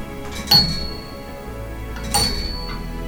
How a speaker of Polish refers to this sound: O i teraz ja, jak zacznę kręcić, to się mechanizm odłączy, więc żeby zegar dalej chodził, to ten ciężarek go dalej pcha i przez to wahadło dalej chodzi. Posłuchajmy, jak brzmi czas.